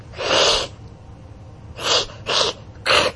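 A mildly annoyed cat hissing: four breathy, airy bursts, one long hiss followed after a pause by three shorter ones in quick succession, fairly loud with no talking.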